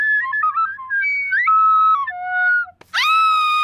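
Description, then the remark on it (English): A shaky, badly played flute wobbles through uneven pitches, slides and breaks, then blows a brief breathy burst before ending on a shrill, piercing high note. No voices are heard. “I was gonna tell you why I hate the system, but I'd rather let my flute do the talking.”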